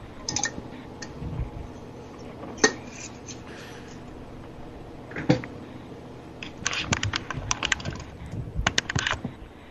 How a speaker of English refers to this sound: God, Evie, you're typing loud.